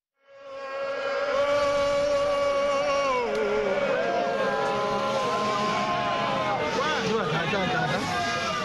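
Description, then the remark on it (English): A crowd of Vinso people in the town of Kumbu, in Cameroon's northwest region, shouts and applauds loudly and continuously at a plea to welcome their traditional leader, many voices overlapping in a dense, wavering roar, with a broad clattering texture like applause running underneath. “Vinso people of Cameroon's northwest region shout and applaud in the town of Kumbu.”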